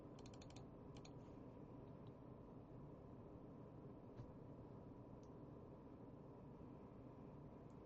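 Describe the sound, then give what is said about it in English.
Soft computer keyboard typing: a quick burst of key clicks at the start, then a few scattered taps, all fairly faint against a steady background hiss with no talking. “People are typing.”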